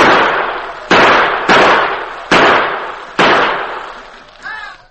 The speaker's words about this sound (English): In the bedroom, the Lone Ranger lay awake and watching Tonto, who maintained a steady gunfire through a window near the bed.